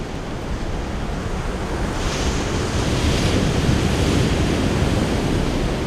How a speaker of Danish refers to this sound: Du er ved Vesterhavet. Det er sen aften. Solen hænger lav og rød halvt nede i horisonten under nogle tynde regnskyer. Det er næsten vindstille. Alligevel er der store bølger, der brede og mægtige kommer rullende ind mod land.